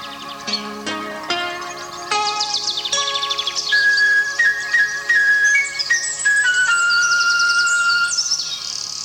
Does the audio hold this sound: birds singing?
yes